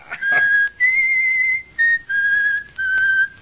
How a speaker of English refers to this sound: Stop that! Stop that, I tell you! Why? What's the matter, Alan? Oh, I can't stand that whistling, William. It's maddening.